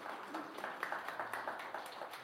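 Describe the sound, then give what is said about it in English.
A short run of four sharp hand claps, crisp smacks in a loose rhythm over a steady wash of background noise, with no one talking. “Amen. Four claps.”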